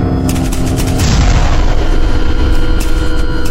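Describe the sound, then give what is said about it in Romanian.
Cannon artillery fire from the speaker's own side, in Transylvania (Ardeal), rumbles on in a dense, continuous barrage, with heavy low booms overlapping in quick succession and sharper cracks among them. No voices are heard. “Parcă ar fi primul bubuit de tun acum 2 ani. E de-al nostru. Au început și de acolo.”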